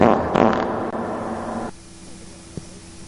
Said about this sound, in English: Now we have to have fart sounds.